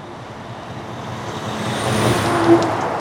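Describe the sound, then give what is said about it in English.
A heavy logging truck rumbles past in Kimball, a tiny town in northern Wisconsin, its deep engine drone swelling steadily louder as it nears, with a brief brake hiss near the end. No one speaks. “Kimball's a tiny town in northern Wisconsin where you're more likely to hear the rumble of logging trucks than the scream of an ambulance siren.”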